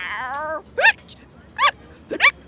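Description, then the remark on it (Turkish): A short whiny vocal whine opens, followed by three sharp hiccups from someone who ran too much, spaced roughly half a second to a second apart, each a quick voiced gulp with no talking around them. “Fazla koşmuş, hıçkırık tutmuş.”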